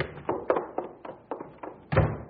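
A door being opened, heard as a quick run of wooden thunks and clicks that ends in one heavier thud, with no voices.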